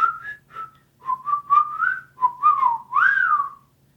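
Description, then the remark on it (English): A person whistles the Nickelodeon jingle, a short, bouncy string of quick chirpy notes rising and sliding in pitch, ending on a longer swooping tone, with no talking. “That was Nickelodeon that you just...”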